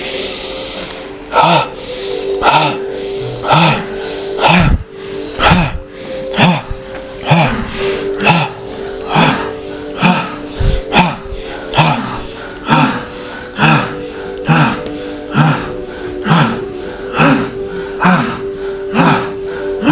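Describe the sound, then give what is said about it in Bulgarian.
Bhastrika pranayama (bellows breathing): loud, sharp, rushing breaths repeated in a steady rhythm of roughly one per second, with longer inhales and shorter exhales, over a soft sustained drone. “Буквално за минутка-две влез в бастърка дишане, дълбокото мощно дишане, сега.”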